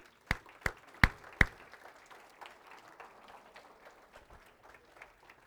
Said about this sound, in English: But I'm going to have all the fathers in the room, please stand up. If you're a father, grandfather, please stand up. All right. And the rest of us, let's give them an applause.